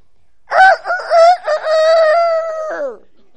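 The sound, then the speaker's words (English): A single loud rooster crow, most likely a person imitating it: a drawn-out, rising-and-falling cock-a-doodle-doo lasting about two and a half seconds, heard alone. “That's pretty good rooster.”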